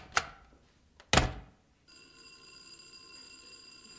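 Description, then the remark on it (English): Two heavy thuds like knocks on a front door, about a second apart, followed by a steady, continuous electric doorbell ringing for a couple of seconds, moderately loud. “There's somebody at the front door.”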